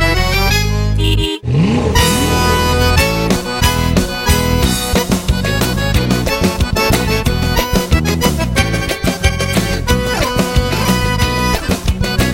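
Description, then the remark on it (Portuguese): A loud engine revs hard, its pitch sweeping upward after a brief cut, then roaring on with rapid throttle blips, like a motorcycle being gunned. “A minha moto já virou atração. Com seu ronco abafa o som do chevetão.”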